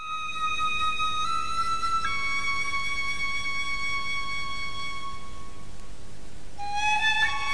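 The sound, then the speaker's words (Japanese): A bamboo flute plays long, sustained notes that shift pitch a few times, blended with a soft koto accompaniment heard from a mansion in the village of Toya, over a faint background hiss. No one speaks. “屋敷から聞こえる琴の音と新吉の笛の音はしっとりと混じり合い、戸屋の村の象徴である焼け山へ溶け込んでいきます。”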